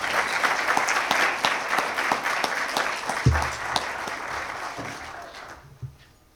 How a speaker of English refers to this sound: I would like you to give them all a big round of applause.